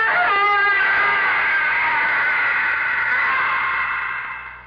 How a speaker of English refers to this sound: But you didn't expect a minor gesture could cause that piercing, shattering, evil scream that shriveled your tolerance to a shivering fear.